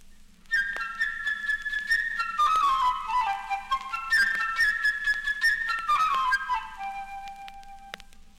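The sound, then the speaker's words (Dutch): A bright, high flute melody representing the little bird Sascha in a story where each character is played by an instrument, chirping and trilling cheerfully with quick upward runs and fluttering ornaments over a faint low accompaniment. No one speaks. “Het vogeltje Sascha laat zijn vrolijke tonen horen door middel van een fluit.”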